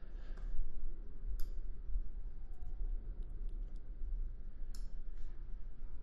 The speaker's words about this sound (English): So I'll, in this note section, I'll have typing as we go for a live reaction, as I've done in previous events.